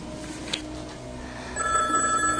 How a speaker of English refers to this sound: Charlotte reaches over to pick up the phone.